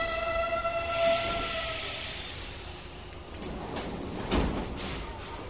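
A metro train pulls into a station, its motor whine fading as it slows, followed by clunks and rattles of doors and carriage noise.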